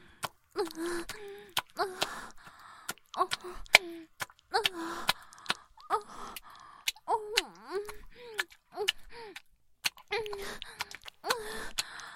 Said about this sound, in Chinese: 没事，师姐只是在运功辅助灵恒修炼，消耗有些大。所以喘气比较大声